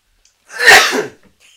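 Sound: sneeze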